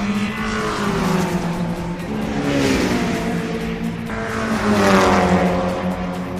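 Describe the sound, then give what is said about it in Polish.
Racing car engines roar steadily for several seconds, their pitch climbing and dropping as cars, some prepared strictly for racing and some everyday road cars, accelerate and sweep past during a track day at the Tor Poznań circuit, loud, with no voices. “a tutaj track day dosyć często, więc można przyjechać i ćwiczyć nie tylko autem, którym jeździ się na co dzień po ulicy, ale także takim, które jest przygotowane stricte do wyścigów.”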